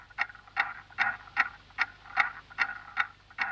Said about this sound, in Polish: Może wraz z pierwszym krzykiem, gdy pierwszy oddech odnajduje swoją sekundę, jedną z miliardów sekund wystukiwanych przez zegar Newtona.